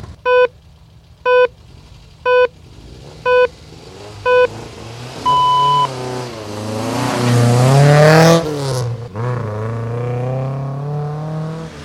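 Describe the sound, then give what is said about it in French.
Five evenly spaced short beeps and a longer final tone count down, then a rally car engine revs hard and loud at the start of the rally, its pitch climbing before dropping back into a steady roar. “Voilà des équipages venus de toute nationalité, vous les entendez ces équipages.”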